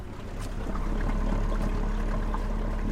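A boat motor drones steadily while water rushes and splashes along the hull, a continuous close wash of noise with no voices.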